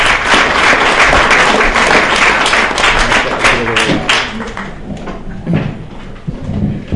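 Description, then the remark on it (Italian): An audience at an evening history talk applauds an engineer who helped fit out the ship Exodus, with dense, sustained clapping that stays loud for about four seconds, then thins out into scattered claps and fades toward the end. “Quindi io farei anche un doppio applauso, scusate.”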